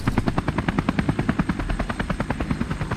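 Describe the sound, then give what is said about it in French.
A helicopter rotor thumps in a steady, rapid rhythm with a deep engine drone underneath, loud, with no voices, from a helicopter in the X-Plane flight simulator. “Vous voulez piloter un hélicoptère?”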